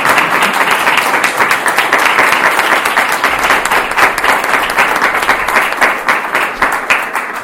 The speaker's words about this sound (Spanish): porque le pido otro aplauso porque está emocionada y ha hecho un gran trabajo.